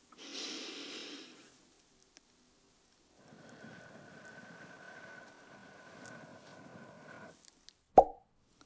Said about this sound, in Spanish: Una burbuja, a ver. Dos burbujas.